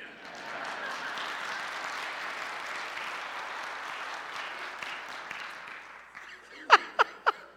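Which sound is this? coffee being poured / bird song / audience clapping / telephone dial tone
audience clapping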